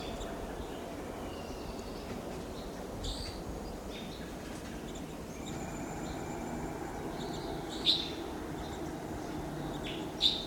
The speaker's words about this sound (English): Wild birds are together at the top of a lodgepole pine here.